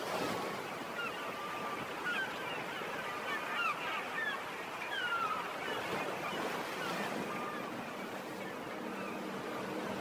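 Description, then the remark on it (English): Sea waves roll and wash steadily against the cliffs of Doneen, a continuous, fairly loud surf roar with gentle swells, and faint bird cries drifting above it. “Let's hear the sea rolling up against the cliffs of Doneen”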